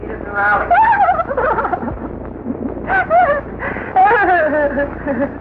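A dog whimpers and yelps in several short, whiny bursts with pitch rising and falling, fairly loud against a faint background hum.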